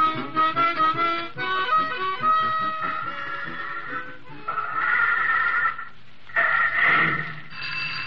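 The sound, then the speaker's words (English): In the radio show Gasoline Alley, the telephone at Wallet and Bobble Garage, an old-fashioned telephone bell, rings loudly in jangling bursts, following a run of bright, tonal notes. No one speaks. “Hold it till I get this phone.”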